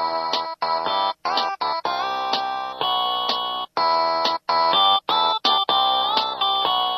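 A cell phone ringtone plays a rock melody in tinny, synthetic tones, repeating short phrases of sustained notes with brief pauses between them, fairly loud and close with no voices.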